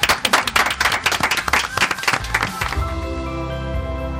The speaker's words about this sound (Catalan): Un aplaudiment per tots. Gràcies.